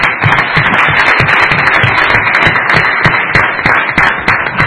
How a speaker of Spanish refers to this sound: Esta noche es una noche de sangre y de sudor rojo y blanco, porque esta noche os voy a pedir un aplauso, pero para todos los que estamos aquí.